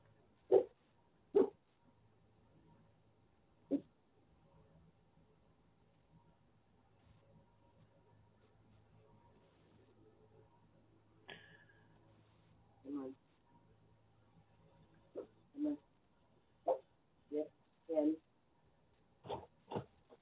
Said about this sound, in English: Sorry, I left my dog out. He was asking for the door.